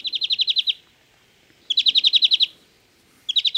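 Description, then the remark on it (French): A European greenfinch sings three bursts of rapid, evenly pulsed trilling notes separated by short pauses, clear, with no other voices or sounds around it. “Verdier d'Europe, Grégoire est d'accord.”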